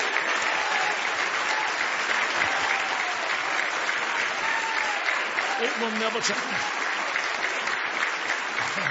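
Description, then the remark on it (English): A church audience claps steadily for the Lord Jesus for the whole stretch, a dense, bright wash of many hands with no pause, while a voice speaks briefly over the applause. “Give the Lord Jesus a big hand clap.”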